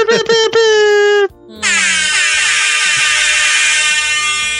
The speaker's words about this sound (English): Oh, wait, where's the air horn?